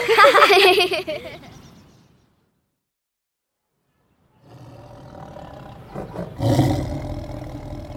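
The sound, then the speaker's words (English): A tiger's loud, wavering roar fades into a couple of seconds of silence, then a second, rumbling tiger roar rises and swells, growing loudest near the end. “They're tigers.”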